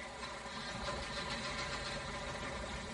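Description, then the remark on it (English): A motorboat engine runs steadily as the boat leaves, a continuous throaty rumble with a faint rhythmic knock, fairly loud throughout, with no voices over it. “Bring my boat here, do you hear? You bring my boat back.”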